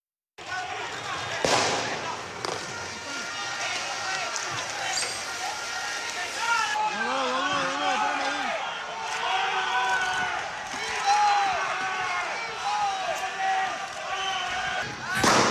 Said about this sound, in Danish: De skud, I hører her i baggrunden, de er ikke fra Irak eller Afghanistan. De stammer fra optøjer i det sydamerikanske land Venezuela.